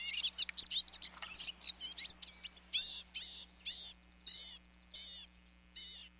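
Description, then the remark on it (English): A male blue-gray gnatcatcher's long, squeaky song: a rapid jumble of thin, high chips and twitters gives way to a series of evenly spaced, buzzy wheezing notes, clear with no voices. “In the course of a male's long, squeaky song, he may sing samples of jays, tanagers, nuthatches, warblers, and many other birds he's heard.”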